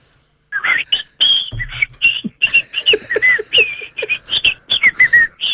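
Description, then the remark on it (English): A person imitates a Hawaiian thrush's song, whistling a fast, lively run of chirps and warbling notes, with brief pauses between bursts and a faint low hum underneath. “Now, that's a European thrush, but we need... We need a Hawaiian thrush.”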